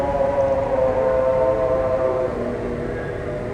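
Loud amplified chanting from two different minarets, coming from all over the city, a steady wavering vocal tone with strong harmonics that echoes and overlaps, bouncing between the sources, holding nearly constant before easing slightly.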